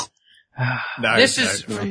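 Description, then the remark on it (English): A person imitates a pig with a quick run of nasal, grunting oinks and snorts, fairly loud, lasting just a couple of seconds after a brief pause. “I'll go with pig noises again.”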